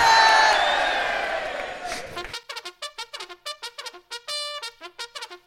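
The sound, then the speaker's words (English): A loud burst of audience cheering and whooping, asked for by those who would rather hear about the Kashmir crisis first, fills the first two seconds, then fades quickly as a single voice begins talking over the quiet. “And oh, give us a cheer if you'd rather hear the Kashmir crisis first.”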